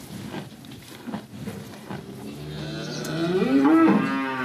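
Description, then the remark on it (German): Impatient cows kept inside the barn of a small family farm with 13 cows low, unhappy while others are out on pasture; one long, rising moo swells loudly toward the end over scattered shuffling and clatter, with another animal's deeper call in the background. “Die Kühe auf dem Hof von Familie Guist sind ungeduldig.”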